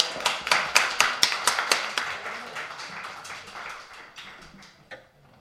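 A small audience applauds two performers with brisk, sharp claps in a quick, fairly steady rhythm. The clapping starts strong, then thins and fades out over about five seconds, with no voices.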